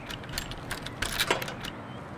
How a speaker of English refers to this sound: She frowns, then locks her bike to a thin tree.